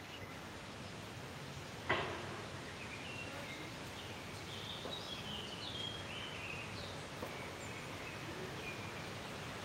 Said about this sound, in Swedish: är det koltrasten jag hör som tar ledstämman? På väldigt långt håll.